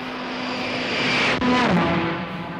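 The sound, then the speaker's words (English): An experimental aerotrain races along at 250 km/h near Orléans, its loud propeller-like engine roar steady and broad, with a whining tone that dips in pitch partway through as it sweeps by. No voices. “Depuis 6 ans, cet aérotrain expérimental fait des allers et retours solitaires près d'Orléans.”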